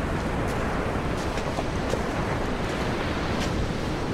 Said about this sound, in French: Il y a le vent et on voit les nuages qui défilent dans le ciel. Il y a l'océan et les vagues qui sont de plus en plus fortes, la mer qui se forme, l'écume sur la mer, sur le bord, sur le rivage.